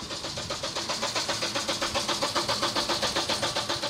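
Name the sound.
car engine being started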